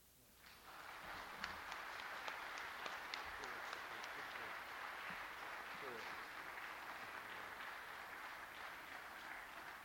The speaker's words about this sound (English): Thank you very much, and I think the applause, it speaks for the inspiration that it should be for all of us in all of our dealings.